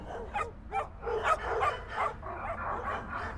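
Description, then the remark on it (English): Several dogs bark in a rapid, overlapping chorus, with sharp yips mixed in, steady and continuous with no speech. “So many of them started barking.”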